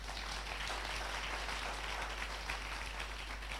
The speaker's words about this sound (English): If you are clapping, you clap well.